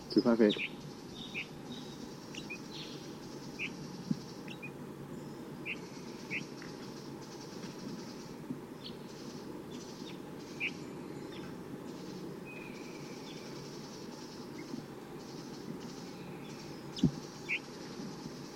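Calls of a wild male bird coming down from the top of a tree: short, high chirps repeat at irregular intervals over a steady, broad rumbling noise, with a brief louder rustle at the start and near the end.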